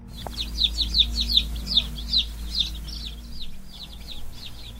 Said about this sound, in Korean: 밖에는 대퉁 맞은 6마리의 병아리들이 모여들어서 창틀 너머 방 안을 들여다보려고 실낱 같은 목을 빼고 요란을 떨고 있었다.